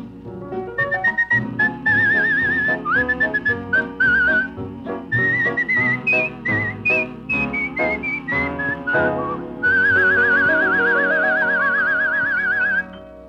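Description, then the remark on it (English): A bright whistler carries a lively tune with warbling trills and chirpy runs that mimic birdsong, sustained over a full band accompaniment with no talking. “Gee, I think you whistled everything except my name in that one”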